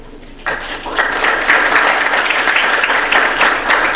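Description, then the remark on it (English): An audience breaks into applause to welcome a speaker at a talk on Apache Beam, starting abruptly after a brief quiet moment and building into steady, dense clapping from many hands that continues at full strength throughout. “That is way too early applause.”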